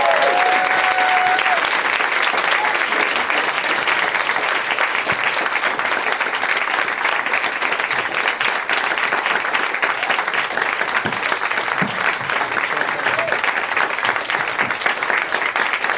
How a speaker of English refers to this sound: I love you guys because the longer it takes them to come out and get in their seats, the longer you clap, and it just seems insanely enthusiastic.